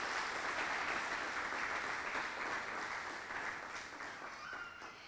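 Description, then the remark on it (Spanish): A crowd applauds steadily to welcome a first-time visitor, a dense, even wash of clapping from many hands that holds throughout and eases off slightly toward the end, with no voices standing out. “La bienvenida y también un aplauso porque a los que vienen por primera vez los recibimos así.”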